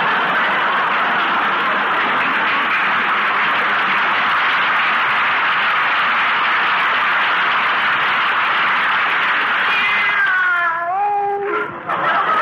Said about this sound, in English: Oh, stop drinking those pine needles, Minerva. Come over here. That's a good kitty.